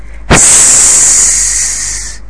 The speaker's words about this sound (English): Listen! What's in this sack? It's making a strange hissing noise.